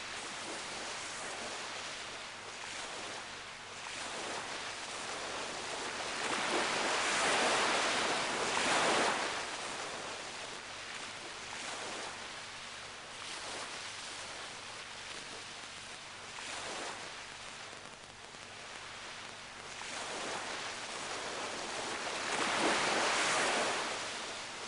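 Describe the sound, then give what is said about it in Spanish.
Sea waves wash ashore at night in slow, repeating swells, each surge building into a broad hissing roar and then receding into a steady background wash, with no voices present. “Vuelve usted a la terraza ante el mar negro.”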